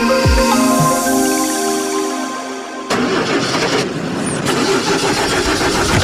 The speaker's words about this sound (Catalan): Uf, el cotxe em fa un soroll estrany i l'aire condicionat no refreda gens.